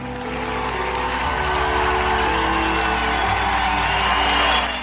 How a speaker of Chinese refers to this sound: 林肯讲话结束之后，听众好几分钟热烈鼓掌，然后开始散去。